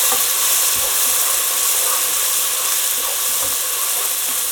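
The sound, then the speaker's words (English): Steady, loud sizzling as food is stirred into hot oil with spices, onions and dried minced garlic. A dense crackling hiss never lets up, with soft scraping and knocking from stirring underneath. No one speaks. “Okay, I'm stirring this into the hot oil and spices and onions.”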